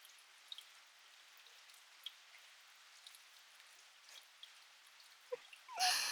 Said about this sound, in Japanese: 雨の中、出歩くと傘を差していてもどうしても濡れちゃいますし、こうした形で雨音を楽しんでもらえたら私は嬉しいです。